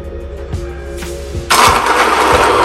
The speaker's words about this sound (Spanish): Y yo voy a colocar aquí unas 8 nueces para triturar. A continuación vamos a mezclar todo esto. Yo tengo aquí, con mi ayuda de la máquina de inmersión o batidora de inmersión.